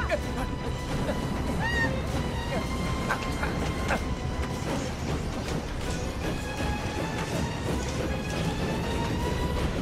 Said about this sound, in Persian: نباید بذاری این قطار توقف کنه.